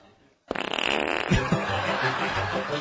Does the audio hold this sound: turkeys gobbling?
no